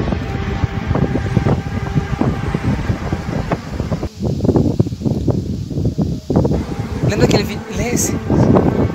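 Strong wind roars and buffets steadily throughout, a loud continuous rushing rumble with gusty surges and brief dips, overwhelming the whole recording.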